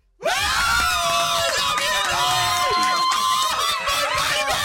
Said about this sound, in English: We got a load of people, like a whole crowd of people, to scream at him, because that's generally what happens to him everywhere he goes, apart from when he comes in here.